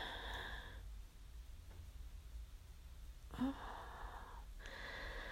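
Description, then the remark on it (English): Heavy, breathy exhalations with a slightly wheezy, whistling edge come in long drawn-out breaths, separated by a quiet pause, with no talking. “The heat in your breath driving me crazy.”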